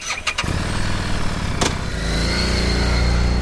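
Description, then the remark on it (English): A Harley-Davidson Street 750 motorcycle engine cranks with a few quick clicks, fires up, and settles into a steady, low exhaust rumble at idle, with no voices. “Now listen to the Street 750.”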